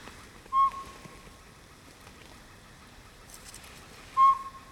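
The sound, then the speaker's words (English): Northern pygmy owl territorial calls played back at sunset in the mountains to try to draw an owl in: two short, clear, whistled toots several seconds apart, fairly loud against a quiet outdoor background with no talking. “going to broadcast a few northern pygmy owl territorial calls and see if that entices one in”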